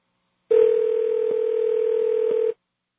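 A steady, fairly loud telephone dial tone hums for about two seconds, with a couple of faint clicks partway through, then cuts off abruptly. No one speaks.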